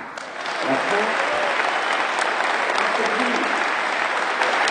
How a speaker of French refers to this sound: Des applaudissements et même des chefs d'entreprise debout à l'issue du discours de Manuel Valls. À l'université d'été du MEDEF, le Premier ministre s'est fait ovationner.